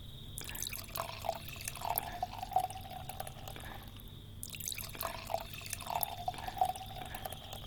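Red wine glugs and splashes as it is poured into a glass, in two separate pours of a few seconds each with a brief pause between them. No one speaks.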